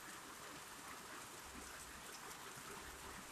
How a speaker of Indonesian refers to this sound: tapi ini hujannya nggak deres-deres banget awet ya awet awet awet asli ini beneran hujan anjir iya.